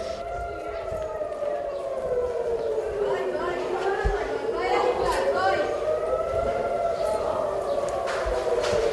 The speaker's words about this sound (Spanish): Están sonando las alarmas en Tel Aviv y nos refugiamos aquí, en un refugio en la ciudad de Tel Aviv. Volvieron a dispararse las alarmas aquí en Tel Aviv y la gente, los israelíes aquí están acostumbrados a bajar directamente a los refugios